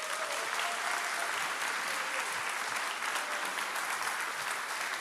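Steady, dense applause from a large audience welcoming a speaker at a church, many hands clapping continuously at an even loudness for several seconds with no voices standing out.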